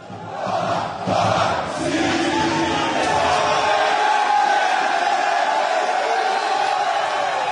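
A large crowd of Botafogo football fans packing an airport gate in Brazil for Seedorf's arrival chants and cheers loudly, a sustained roar of many voices with shouted calls rising above it, steady and dense throughout.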